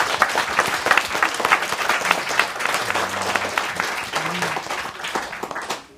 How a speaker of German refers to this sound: Wir verabschieden uns an dieser Stelle aus der Pablo-Neruda-Schule hier in Leipzig. Es hat mir ganz viel Spaß gemacht. Einen großen Applaus für alle, die mitdiskutiert haben.